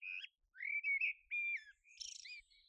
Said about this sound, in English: So a blackbird has a very rich song and they're fluty notes. They are strong notes.